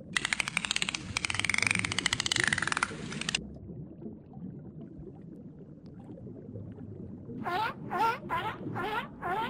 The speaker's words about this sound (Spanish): Estamos escuchando un delfín. Parece que se ríen.